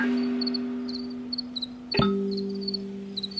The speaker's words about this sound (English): The cricket songs are like the real point of entry into all of that.